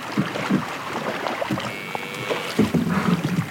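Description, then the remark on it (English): A boy of about 12 poles a narrow, canoe-like wooden boat with a long wooden pole through marshland waterways between reeds, herding his family's water buffalo, with soft splashes and low knocks against a steady breathy wash of wind and water. No one speaks. “A young boy, maybe around 12, maneuvers a narrow wooden boat, a little like a canoe, using a long wooden pole and skills passed down to him through generations.”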